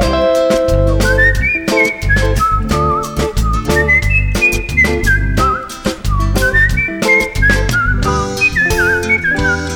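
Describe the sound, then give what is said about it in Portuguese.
A person whistles a bright, warbling melody imitating a sabiá thrush's song, with quick rising and falling phrases and trills, played loudly over a full band with steady drums and bass. “E curioso fui tentar imitar o canto dela. A sabiá cantou mais forte bem pertinho da janela.”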